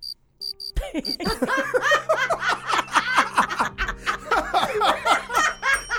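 A handful of thin, high cricket chirps sound alone in quick bursts, then loud, lively laughter from several people bursts in and drowns them out.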